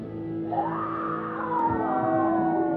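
A singer lets out a long, loud scream that swoops upward and holds, strained and sustained for nearly three seconds over a steady droning backing.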